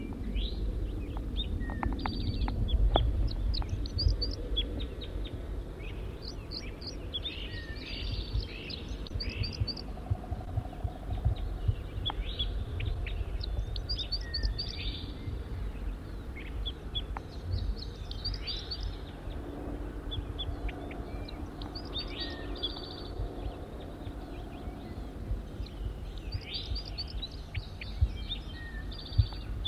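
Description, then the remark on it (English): A wild male bird sings at close range, repeating short, high, twittering phrases every few seconds over a steady low rumble of background noise; no one speaks. “Back to the wild bird.”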